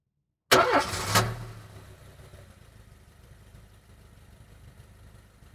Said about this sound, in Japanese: 何ですか？ 車？ はい、そうです。車ですね。